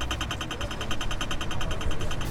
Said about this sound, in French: Le bus arrive. Encore une fois, les signaux sonores guident les personnes malvoyantes ou parfois trop distraites.